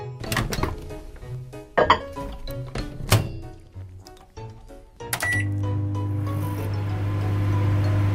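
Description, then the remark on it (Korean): A microwave oven is set to 5 minutes and started to make microwave popcorn: a run of sharp clicks and thunks from buttons and the door, then a steady, low droning hum that holds without a break to the end. “누구나 쉽게 만들 수 있는 전자레인지용 팝콘이지만 누구나 제대로 만들 수 있는 건 아니다. 시간은 넉넉하게 5분으로 세팅. 그리고 스타트.”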